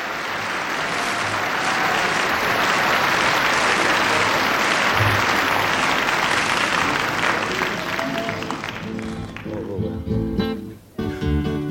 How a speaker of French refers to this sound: C'est bien sûr du vrai public et de vrais applaudissements.